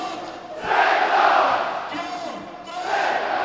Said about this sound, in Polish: Niemal 6 tysięcy kibiców dopingowało w niedzielę drużynę Motoru Lublin w starciu ze spadkowiczem Ekstraklasy Wisłą Płock. Trybuny stadionu oszalały już w drugiej minucie.